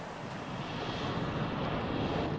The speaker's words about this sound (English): A plane takes off.